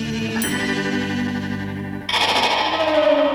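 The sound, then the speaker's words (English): Dense, layered guitar textures drenched in reverb and effects, at least a couple of layered tracks in stereo with right-to-left panning, swirl together, then shift abruptly into a brighter, shimmering wash with a gliding tone, loud and continuous with no voices. “They use guitars and reverb and God knows what else to make that noise.”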